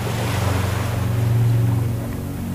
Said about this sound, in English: Allow the sounds of the ocean to wash over you, bringing you closer to the infinite source of energy within you.